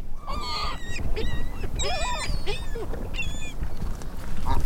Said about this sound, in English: The sounds of Loch Raven Reservoir back in January